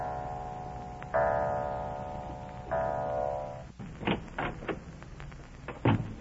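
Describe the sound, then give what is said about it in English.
A clock strikes twice, each chime ringing out and lingering, then a few soft clicks and knocks follow as Daddy Snooks, in the Baby Snooks radio show, quietly eases a door open and lets himself into the house after a downpour, with no voices. “Drenched to the skin by an unseasonable downpour, he quietly lets himself into the house as the clock strikes.”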